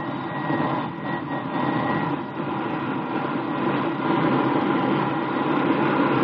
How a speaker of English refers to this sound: The jet engine catches behind you, and now you're ready to taxi out to the runway.